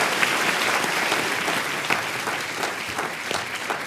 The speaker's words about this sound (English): Thank you very much. Round of applause. Thank you very much. Thank you.